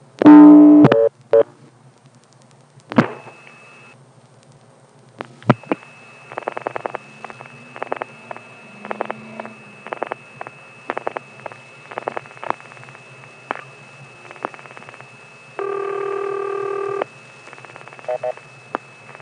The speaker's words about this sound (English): You don't hear any voices, but you do hear the operator ring, the operator cue tone, and strangely, there is even some clicks that appear to be associated with the operator keying the number. That's the weirdest part.